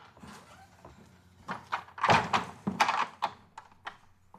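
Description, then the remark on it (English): A woman walks through her front door as it opens and closes, with a cluster of thumps and rattling clunks over a couple of seconds, then a few softer knocks fading out. “She walks through her front door.”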